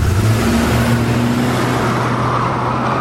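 A limousine drives off, heading through a park, its engine a steady low droning hum with a constant wash of road noise for about three seconds. No one speaks.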